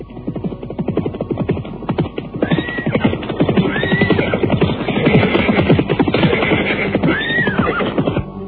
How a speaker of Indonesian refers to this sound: Kebo Anabrang masih terlena dalam tidurnya ketika mendadak dua orang penunggang kuda datang menghampirinya.